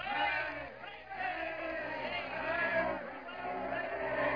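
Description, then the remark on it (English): A huge crowd of American baseball fans roars and cheers steadily in welcome to Max Carey, Leslie Mann and the Wheaties All-American Amateur Baseball Champions team, a dense wash of many voices shouting together with swelling peaks, loud throughout. “As a huge crowd of American baseball fans roar a welcome to Max Carey and Leslie Mann and 18 boys of the Wheaties All-American Amateur Baseball Champions team.”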